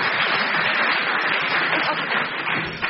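A game-show audience applauds to decide the winner of a round between two contestants, clapping steadily for about three seconds in a dense, even wash of many hands at a fairly loud level, with no voices standing out.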